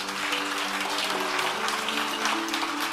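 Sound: audience clapping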